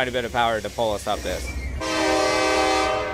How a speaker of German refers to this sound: Wir werden von einer SD-Mac-Lokomotive gezogen mit 4.300 PS. Und hinten schiebt eine zweite Lok mit 3.000 PS. Man braucht schon ein bisschen Kraft, um uns hier hochzubringen.